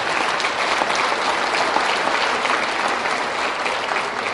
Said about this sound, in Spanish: Un aplauso para Cristo.